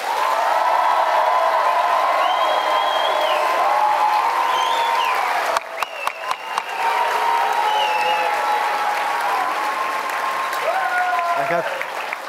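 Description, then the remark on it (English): Loud, sustained applause from a large audience voting by applause for the dog side in a dogs-versus-cats contest, steady and dense throughout, with whoops and cheers rising over the clapping and a brief flurry of sharper claps near the middle. “First, we will hear in purely applause terms, if we will hear from the dog side and then the cat side.”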